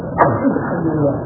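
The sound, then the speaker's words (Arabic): A single short, sharp sneeze bursts out near the start, followed by a low, steady murmur of background noise for the rest of the moment. “رحمك الله.”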